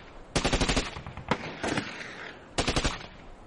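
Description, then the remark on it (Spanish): Rapid bursts of automatic gunfire crackle in quick succession, with a single sharp shot between them and another burst near the end, loud, with no voices: soldiers in camps on opposite banks of the Rhine, at the French-German border, exchanging shots. “Durante 10 meses, los soldados de los dos campamentos situados en orillas opuestas del Rin se observan e intercambian disparos de vez en cuando.”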